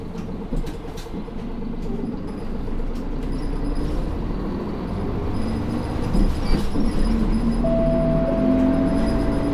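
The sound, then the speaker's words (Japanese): A city bus on an urban expressway express service bound for Tenjin pulls away from the Hashimoto stop, its engine rumbling steadily before a rising whine builds as it gathers speed, heard from inside the vehicle. “発車します。”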